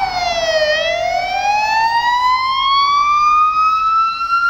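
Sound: ambulance siren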